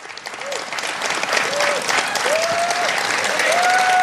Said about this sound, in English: Yeah, the applause went on for a while, as did the president.